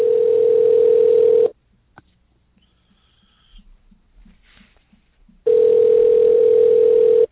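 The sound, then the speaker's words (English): A steady telephone ringback tone from a call placed directly to someone for the Backwoods Home Magazine show Self-Reliance Exposed sounds twice, each a loud sustained buzz of about a second and a half, separated by several seconds of near silence with faint low clicks. “Get to listen to the buzz.”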